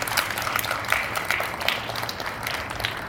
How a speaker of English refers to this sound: Let's give applause for that.